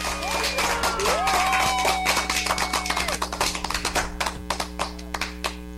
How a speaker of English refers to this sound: Can I give them a clap? Is that okay to give them a clap?